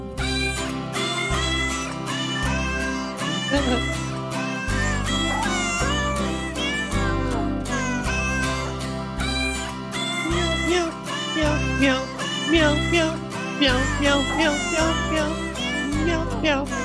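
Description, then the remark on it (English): A voice imitates a cat with repeated, gliding meows over loud, busy music with a steady, pulsing bass line, continuing throughout, on the radio show Animal World on Alternative Talk 1150. “But it's kind of fun to meow and whoop along.”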